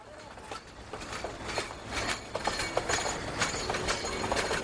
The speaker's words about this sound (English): A train stuffed full of sugarcane chugs along the tracks that run through the plantations.